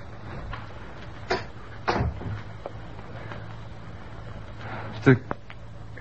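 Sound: door being closed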